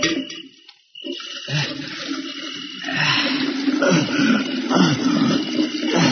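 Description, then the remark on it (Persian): Water pours steadily into a container being filled to carry in the back of a car for a trip, a gushing, rushing flow that starts after a brief pause and grows fuller and louder. “تا موی دبر آب میکنم بذارم پشت ماشین”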